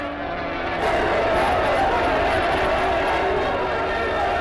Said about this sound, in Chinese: 这时候女特务被压了过来，工人群众怒吼地围上来，要抓他打他。